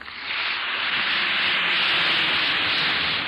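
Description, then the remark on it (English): An effervescent Alka-Seltzer antacid tablet fizzes in water: a steady, dense crackling hiss that starts almost at once and holds at an even level for over three seconds, with no voices. “Listen to it fizz.”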